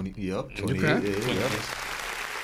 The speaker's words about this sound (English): 28 years. So, clap. Thank you.